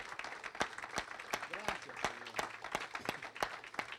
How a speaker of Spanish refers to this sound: Démosle un aplauso al Señor que lo merece.